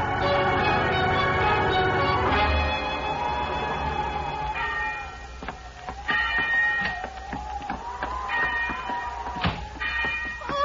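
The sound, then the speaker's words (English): A bell rung by a woman rings over and over, its ringing tones overlapping and sustaining while sharp strikes keep coming at an uneven pace, fairly loud, with no voices. “She's been ringing the bell.”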